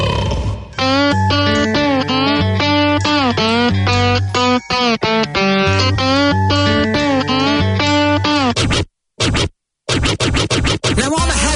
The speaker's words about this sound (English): That is a cigar box guitar.